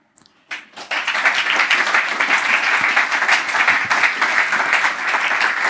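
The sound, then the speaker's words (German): A crowd bursts into sustained applause after a brief pause, many hands clapping densely and steadily at a loud, even level with no voices over it, as the hosts take the stage at an event for young people and their projects. “Hallo, danke schon mal für diesen Applaus.”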